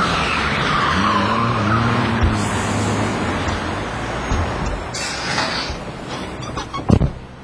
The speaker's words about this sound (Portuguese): Putz, não acredito. O pneu do carro furou bem no meio da rua. Como é que eu faço agora?